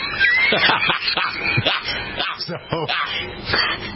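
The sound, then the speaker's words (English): A lively run of pig oinks and squeals, several quick nasal grunts tumbling over one another for a few seconds, loud and busy throughout. “Oink, oink.”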